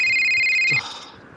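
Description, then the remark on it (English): A loud electronic phone ringtone trills steadily for under a second, then cuts off abruptly, leaving a faint background hiss. “Who the fuck is calling me?”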